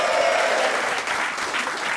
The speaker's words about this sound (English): Now, David, this is David on sound, everyone. Give David a round of applause.